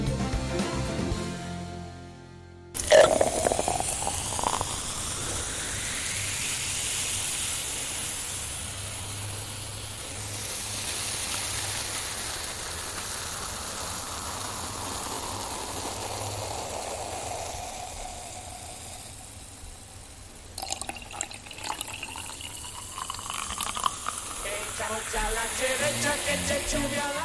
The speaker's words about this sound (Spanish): Bueno, a eso se le llama tirar bien una caña y no precisamente para pescar anchoas.